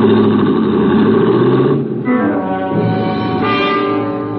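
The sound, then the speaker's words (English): A car engine revs hard and roars steadily, its pitch rising and dipping as the car is gunned the length of an alley and swerves on two wheels into a busy street. The loud motor sound fills the whole clip with no voices. “The shock of fire red hair gunned my car the length of the alley and then swerved on two wheels into the busy street beyond and was gone.”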